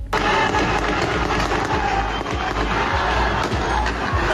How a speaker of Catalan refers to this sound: Sentim aquests trets i els crits. Fonts locals parlen de com a mínim 2 morts i diversos ferits.